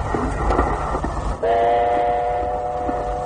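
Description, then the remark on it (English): A train rumbles and rattles steadily along the track at night in the rain, heard from a baggage car, and about halfway through a loud, steady horn sounds over the noise and holds to the end. “Rattling along in that baggage car with the light from the lantern showing up the streaks of rain in the window.”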